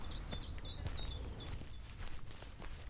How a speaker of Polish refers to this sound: I tutaj jesteśmy na zapleczu domu. Zaplecze domu to kwiaty, ogród, jabłonki, porzeczki. No i ptaszki, które tu mieszkają.